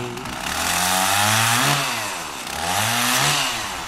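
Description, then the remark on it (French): A chainsaw engine runs loud, revving up and dropping back twice in a rising, falling whine with a harsh buzzing edge, no voices present. “Actionnons maintenant la tronçonneuse avec Mickaël et son voisin de jardin.”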